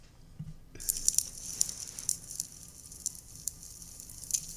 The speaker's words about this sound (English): I mean, it definitely is fire